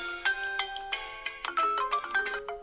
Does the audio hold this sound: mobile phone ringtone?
yes